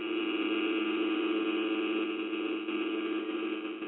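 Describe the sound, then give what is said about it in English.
A continuous, harsh electronic buzz of GSM mobile-phone interference during an actual call pulses rapidly and steadily throughout, loud, with a rough, rasping tone and no speech or other sounds. “That's what an actual call sounds like, a continuing pulsed buzzing.”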